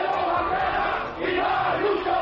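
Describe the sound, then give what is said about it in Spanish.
A large crowd chanting together at a May Day (Labour Day) union protest march in Spain, a dense, continuous roar of many voices with rhythmic swells, loud throughout with a brief dip in the middle. “Este es el sonido que se va a escuchar en los 80 actos que han convocado los sindicatos en todo el país.”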